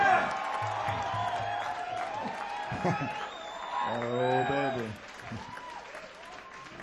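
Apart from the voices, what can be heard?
audience applause and cheering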